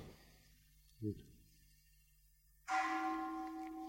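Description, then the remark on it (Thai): After a quiet stretch with one soft low thump, a bell is struck once, loud, its bright overtones ringing on steadily to the end. “ฟังเสียงระฆังฟังแล้วชอบหรือไม่ชอบอย่าจงใจดูนะว่าชอบไม่ชอบถ้าจงใจดูแล้วเฉยๆทำใจสบายรู้สึกไหมเสียงกระทบหูนะแล้วมันมาสะเทือนอยู่ในใจใจสั่นพลิ้วๆๆๆหยุดนะสะเทือนเข้ามาที่ใจ”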